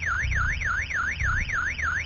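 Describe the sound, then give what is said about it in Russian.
A car alarm goes off outside a house in the woods outside the city, waking a sleeper, wailing in a rapid, repeating up-and-down sweep, loud and steady throughout, with a low rumbling pulse beneath it and no voices. “Меня разбудил шум сигнализации машины.”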